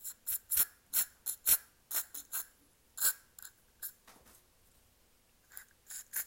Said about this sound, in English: This is how I scent my room. It's Febreze. Well, it's off-brand Febreze. It's called Sure Scents Waterfall. That's me spraying it.